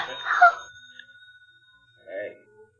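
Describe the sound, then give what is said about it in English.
A pay phone in a pay booth rings at night in two short bursts with a pause between, a thin electronic tone hanging faintly in the gap. Moderately loud, with no voices over it. “Well, look, you can just let it go and it'll stop ringing. Who calls a pay booth this time of night?”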